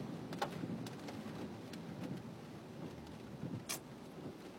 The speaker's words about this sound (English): Ah, all this rain, can't really see the lines on the road too well.